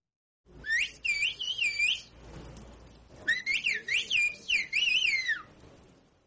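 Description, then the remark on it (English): A person communicates in a whistled language, called bird language, used in a mountainous area of Turkey: two long runs of rapid, gliding high-pitched whistles that rise and fall in quick phrases, separated by a brief pause, with no talking. “The UN's Educational, Scientific, and Cultural Organization, or UNESCO, has identified the bird language as an endangered cultural heritage.”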